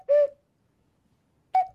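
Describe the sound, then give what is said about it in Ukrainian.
A zozulka, the Ukrainian ocarina, plays two clear, breathy hooting notes about a second and a half apart, mimicking a cuckoo's call. The notes are fairly loud, with silence in between. “Тому що імітує спів зозулі.”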